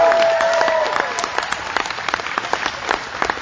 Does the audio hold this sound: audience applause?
yes